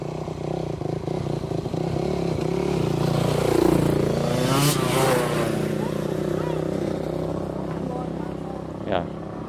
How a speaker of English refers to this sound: we're going to get some motorbikes passing, so see if we can get a binaural. No, it's not a binaural, but you can get a stereo.